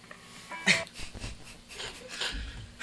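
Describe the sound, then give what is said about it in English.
A dog makes a few short, breathy snorts and whimpering noises, with a sharper burst near the start and another toward the end, no one talking. “That's a cool dog.”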